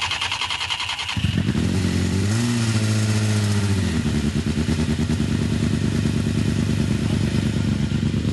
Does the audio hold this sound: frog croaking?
no